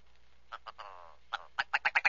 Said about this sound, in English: So the next bird that you've chosen is the willow ptarmigan. And I'm going to play a little bit of sound that you provided for this bird. Now, to me, this really sounds like a chicken in a chicken coop.